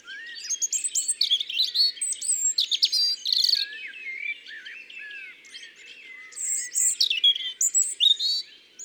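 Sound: european robin song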